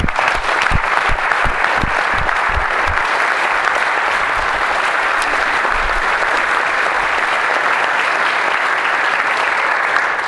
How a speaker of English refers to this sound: And so I'd like to give them a round of applause.